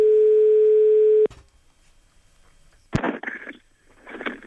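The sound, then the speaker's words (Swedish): A steady telephone ringing tone sounds loudly for just over a second and cuts off, followed by quiet, a sharp click, and then a voice answering faintly on the line; a prank call on the Mix Megapol morning show, calling about renting stable space for a horse. “Men vi ringer alltså för att hyra plats för en häst.”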